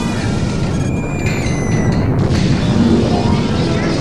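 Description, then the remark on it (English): A loud, sustained roaring rumble of an explosion blast fills the whole stretch, deep and dense, with a faint high whine briefly threading through early on. No voices are heard. “Atomic weapons resemble ordinary high explosive weapons in that both explosions are due to the rapid release of large amounts of energy in a small space.”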